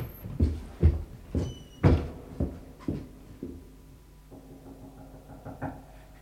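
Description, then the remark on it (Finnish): A steady series of about seven dull, hollow knocks, roughly two per second, from inside a king's coffin, growing fainter before giving way to a quiet low rumble. “Yhä kuninkaan ruumisarkussa koputtaa.”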